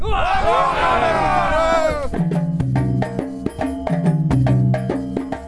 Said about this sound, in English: And can I get an old cheer from the team? There we go.